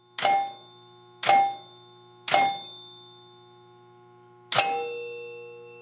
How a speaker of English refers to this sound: But if you have 900 points and score an additional 100, according to the laws of math, you'll have 1000, so two reels have to move in order to display that sum. They do. And did you notice that two bells rang this time?